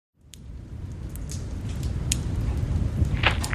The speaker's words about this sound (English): When he got there, big drops of rain were starting to fall.